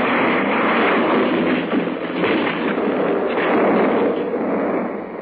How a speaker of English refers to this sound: The plane hit the tops of the trees, spun and tore its way through to the lower branches, coming to rest a few feet above the ground, cradled between two huge trees.